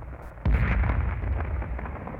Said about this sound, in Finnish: Tykkien jylynä kuuluu joskus lähempää, joskus kauempaa.